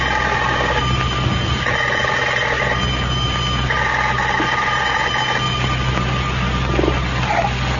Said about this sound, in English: As we look in on Pine Ridge today, we find Abner alone down at the Jot 'em Down store. The telephone is just ringing. Listen.